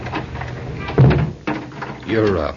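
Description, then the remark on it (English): A front door swings shut with a single solid thud partway through, while voices talk before and after it. “Don't you think we better close the front door?”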